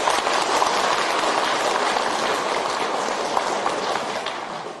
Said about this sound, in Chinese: 所以台长在这里第一为我们今天带很多亲戚朋友来的慈悲的听众朋友们，大家给他鼓鼓掌，谢谢他们。